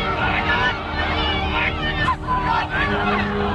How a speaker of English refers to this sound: She falls to the ground, but the mob picks her up and drags her down the driveway.